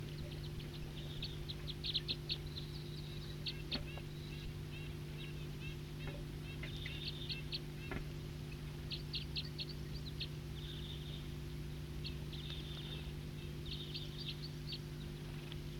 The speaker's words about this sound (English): So recording some wild birds here. Start recording.